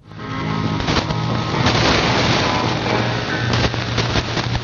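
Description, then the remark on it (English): Shortwave reception of MAC Shortwave on 6950 AM, recorded by Sea Lord on 25 May around 0400, a good signal with some fading: a steady wash of hiss and crackle with faint underlying tones, the signal swelling and dipping slightly over a few seconds, with no clear speech. “Says this was a good signal with some fading.”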